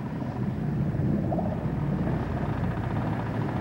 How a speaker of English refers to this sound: The crew of this vessel try consciously to keep her quiet, but when its engine is turned on, it gets very loud at a frequency of 20 hertz.